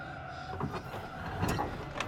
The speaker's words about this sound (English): The front passenger seat window begins to roll down.